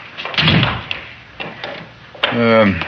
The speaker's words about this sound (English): That lets me see who it is from the living room. I just press the button. The door operates electronically.